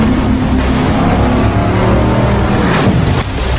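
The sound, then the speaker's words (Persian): A loud, steady motorboat engine roars at high throttle, the boat running at full speed, with rushing water and wind noise filling the background and a brief surge near the end. “ما آخرین قایقیم.”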